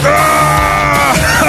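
A man yells loudly in one sustained, strained shout lasting about a second and a half, his pitch wavering and dropping slightly partway through.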